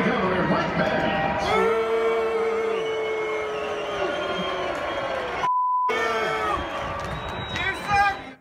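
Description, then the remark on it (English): A large crowd boos and chants loudly and continuously at Mike Pence during his speech, calling him a traitor, voices overlapping in a dense roar, interrupted midway by a short bleep tone before the jeering resumes. “Booing is one thing, but they're calling Pence a traitor, and he tries to just keep giving his speech and act like it's not happening.”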